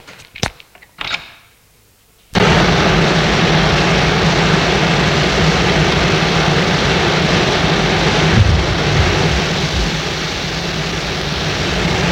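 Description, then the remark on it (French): After a few brief knocks and a quiet moment, a dense, loud roar of heavy rain with wind in October, so heavy one can barely see, sets in abruptly and holds steady, enveloping, with no voices. “Pleut à verse avec du vent, l'on y voit à peine, nous sommes en octobre.”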